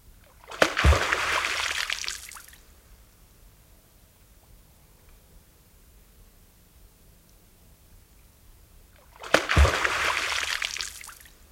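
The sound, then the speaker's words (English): Two loud, sharp tail slaps of an alarmed American beaver at its colony at night hit the water several seconds apart. Each sharp smack of the broad tail gives way to a splashing, spraying wash that fades over a couple of seconds, with near-silence between the two. “If one visits a beaver colony at night, a beaver is likely to respond in alarm by slapping its broad tail against the surface of the water.”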